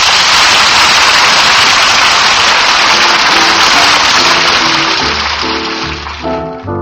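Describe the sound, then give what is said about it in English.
A steady, dense hiss of a light spring rain shower falls evenly throughout, while soft tonal music begins rising underneath in the second half as the shower gradually thins. “Say, fellas, let's kick up a light spring shower, shall we?”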